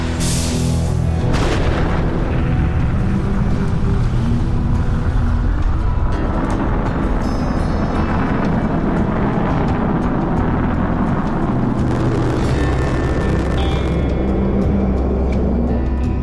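A deep, sustained roar of rocket main engines igniting at launch, loud, with rumbling low-end power and crackling texture that builds and continues steadily without any voices.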